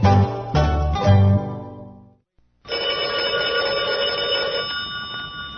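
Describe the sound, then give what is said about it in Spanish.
A telephone rings loudly in a few quick repeated bursts, falls silent for a moment, then resumes with a steady, continuous ringing tone; no voices are heard. “Tu teléfono puede ser protagónico en un programa radial.”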